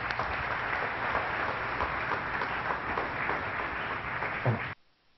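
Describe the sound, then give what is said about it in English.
Steady, dense applause from a large crowd at a fellowship gathering, welcoming a speaker about to share her testimony. It is sustained and fairly loud for nearly five seconds before cutting off abruptly into quiet. “So please give a warm welcome”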